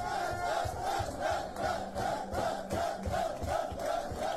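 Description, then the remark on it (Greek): A group of players shouts and celebrates in a locker room, welcoming and hugging coach Mendilibar, their loud overlapping voices rising and falling in a steady, chant-like rhythm with roughly twice-per-second pulses throughout. “Είναι φωνές, πανηγύρια μέσα από τα αποδυτήρια.”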